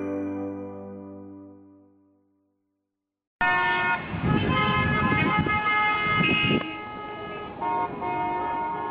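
Several car horns honk over the dense din of a traffic jam, one long blast fading out before a sudden chorus of overlapping horns starts and continues steadily, loud.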